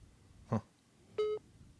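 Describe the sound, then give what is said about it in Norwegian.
A brief, steady, ordinary ringback tone from a phone on speakerphone, for a call to the United States made from a hotel in Norway, moderately loud and slightly tinny, preceded by a short muffled bump. No one speaks. “Vanlig ringetone, hører jeg.”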